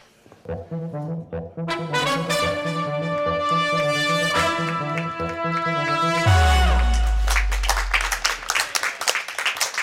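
A bright, sustained musical passage ends with a low thud, then a steady burst of clapping from students of Herttoniemi co-educational school (Herttoniemen yhteiskoulu) takes over for the last few seconds, during a live broadcast at Oodi Central Library.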